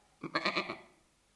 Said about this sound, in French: Ensuite, la chèvre qui appelle son chevreau. Le chevreau dort. Donc la chèvre continue à appeler. Le chevreau se réveille. Il répond à sa mère. Et la chèvre est rassurée.